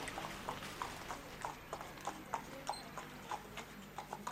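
Horse hooves clip-clop at a steady, even trot, as from a horse-drawn carriage, with crisp regular hoofbeats on hard ground over a faint rumbling background. No one speaks.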